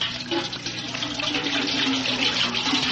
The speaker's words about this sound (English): I'm going to fill up this tank with water containing man-eating piranha fish. And if you fail to talk before I fill up the tank, in you go.